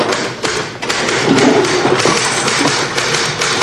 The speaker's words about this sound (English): Who's typing? Probably Dietrich. He knows the touch system. You hear that? Dedication.